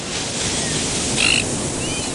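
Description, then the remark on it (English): Steady, continuous rush of ocean surf washing onto a beach, fairly loud, with a brief high chirping call rising briefly above the wash partway through. No voices. “Hey, it's DJ Cage, and I'm relaxing by the beach listening to the sounds of the ocean.”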